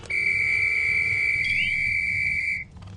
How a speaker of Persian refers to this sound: حالاً خب، برای اینکه توجه اسبا رو جلب کنم، از سوتم اینطوری استفاده میکنم.